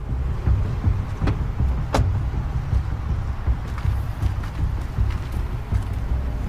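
A car door unlatches and opens with a couple of sharp clicks and thuds as someone climbs out, over a steady low rumble of an idling engine nearby.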